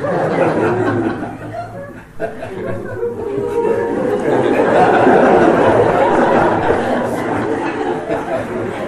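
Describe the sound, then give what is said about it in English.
A crowd of voices imitates cuckoo calls all at once, the overlapping calls blending into a loud, continuous din mixed with chatter and bursts of laughter. “And all the boys would start imitating exactly the sound of cuckoo.”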